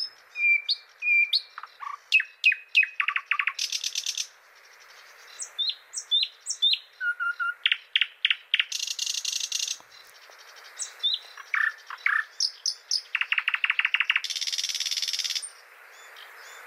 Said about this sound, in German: Aber wenn man im Osten Europas meint, eine Nachtigall zu hören, dann ist es mit allergrößter Wahrscheinlichkeit ein Sprosser.